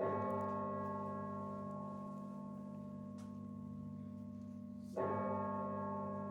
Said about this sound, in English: The bell struck 12.